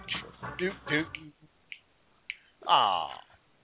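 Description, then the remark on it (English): A couple of crisp, isolated finger snaps about half a second apart, set between stretches of wordless voice, with a long falling vocal sound following. “I hear you dancing and, like, snapping your fingers over there.”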